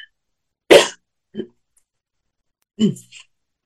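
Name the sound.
throat clearing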